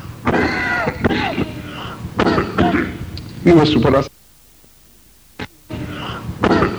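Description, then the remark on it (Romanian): A man, whose cough is a lasting effect of time in prison, coughs and clears his throat in a series of rough bursts, broken by a short silence and a single brief, sharp cough before more hacking. “Nu mă supărați dacă din când în când tușesc ca să-i amintire din închisoare.”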